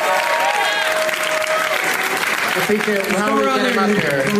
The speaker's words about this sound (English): Thank you. Round of applause for all the name tags, you guys. Come on.